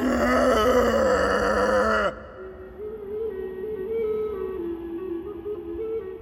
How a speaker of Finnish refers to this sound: Silloin tällöin edestä kaukaa kuului kamelin huuto.